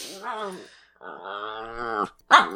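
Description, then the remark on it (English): A person's voice imitates a dog growling: two drawn-out, rumbling, wavering vocal growls, followed by a short, sharper vocal burst at the end. “No dog of mine is a Tim Burton fan.”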